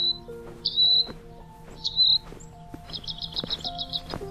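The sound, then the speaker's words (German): A European robin, perched with puffed-up feathers as a winter night falls, chirps softly: a few short, high twittering notes, then a quick run of rapid repeated chirps, with faint steady low tones humming underneath. “Ein paar Meter weiter setzt es sich wieder und zwitschert mit ausgeplustertem Gefieder leise durch die anbrechende Winternacht.”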